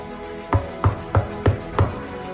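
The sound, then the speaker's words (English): Five firm knocks on the door of Savannah's hideout in a Captain Marvel story land in a steady, evenly spaced rhythm. Each is a dull, solid thud with a sharp attack. No one speaks. “Let him knock, boss.”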